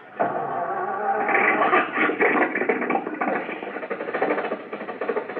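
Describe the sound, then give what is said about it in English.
Mr. Benny's car motor, in a garage, catches and starts up, then keeps running with a rough, chugging rumble that holds steady for several seconds. No one speaks over it. “There you are, Rochester. The motor's going.”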